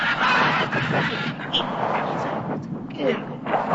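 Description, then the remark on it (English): A huge bird, miles up in the air, honks and squawks loudly and harshly, its rough calls running almost continuously over a dense, noisy rush of sound for a few seconds. “Miles up on a mad bird, you're going to dry it behind the ears?”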